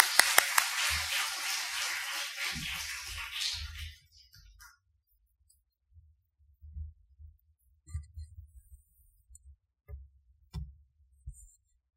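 An audience claps steadily for about four seconds to welcome a speaker, a dense, even burst of applause that then stops, followed by a few scattered low thumps in near-quiet.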